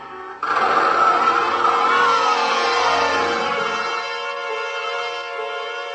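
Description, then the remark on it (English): A milk truck engine starts up abruptly and revs loudly as it is driven off, holding a steady mechanical roar that gradually settles and eases slightly as it continues, with no voices. “The light at the other end turned out to be a milk truck without a driver.”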